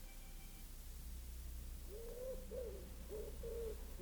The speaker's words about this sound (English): From the deepest wells of silence, the wood pigeon drew its bubble of sound.